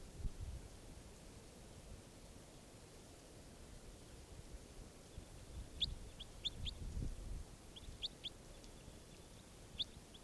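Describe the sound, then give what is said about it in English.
A bird, numbered 587, calls with short, sharp high chirps in a few small bursts, repeating over a steady low rumble and hiss; no one speaks. “This bird 587 again.”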